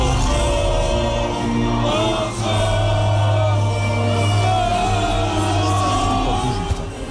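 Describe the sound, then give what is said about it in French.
A huge stadium crowd at a France–Turkey football match sings the Marseillaise together in a loud, continuous mass of voices, with a roar of cheering and clapping mixed in throughout, applauded at length in the Turkish-side stands. “Ça chante pas plus juste, mais écoutez, cette Marseillaise applaudit longuement en tribune côté turc.”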